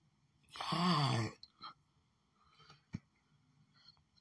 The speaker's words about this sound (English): Jesus, I'm not still yawning. I didn't even get out of bed yet.